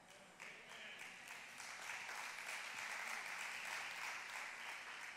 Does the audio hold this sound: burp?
no